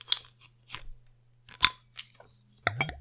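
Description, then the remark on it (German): A bottle of 7.5% imperial beer being opened: a series of sharp, crisp metallic clicks and snaps spread over a few seconds, ending with a quick scraping burst, all over a faint steady low hum. “Ja, dann öffnen wir mal, ne?”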